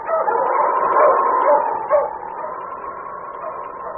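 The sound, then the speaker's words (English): A dog, Sergeant Preston's wonder dog King of the Yukon, howls in a long, sustained, wavering cry that holds steady for several seconds with a brief swell partway through, loud, with no voices. “Now back to the days of the gold rush when Sergeant Preston and his wonder dog King battled through storm and snow to preserve law and order as they met the challenge of the Yukon.”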